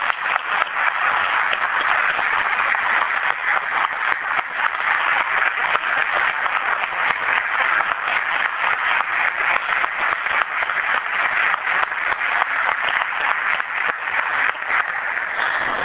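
A crowd applauds steadily for the retiring City of Newton fire chief, honoured for 39 and a half years of service, a dense, even wash of many hands clapping at once that holds at a constant loudness throughout, with no voices standing out.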